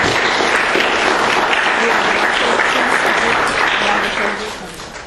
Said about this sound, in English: And I think we should give a loud applause for all of our speakers, and we're going to come to wrap up, okay?